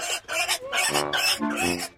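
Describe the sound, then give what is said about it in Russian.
Gustavson's pig, which ran away in the night, squeals loudly and shrilly from a field in several rapid, closely spaced bursts, sounding harsh and piercing, with no pauses between the cries. “«Свинья», — закончил Пэтсон.”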